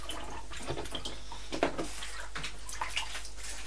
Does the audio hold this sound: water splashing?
yes